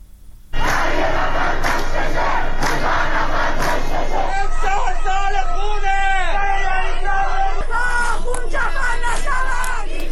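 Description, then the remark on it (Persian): A large crowd of citizens gathered outside Raja'i Shahr prison in Karaj, loud and continuous: many voices shouting and chanting together in a dense, rising babble, with some higher cries and wavering calls standing out from the roar. “در پی این هشدارها تعدادی از شهروندان در مقابل زندان رجای شهر تجمع کردند.”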